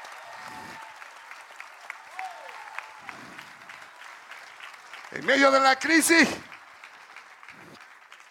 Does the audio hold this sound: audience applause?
yes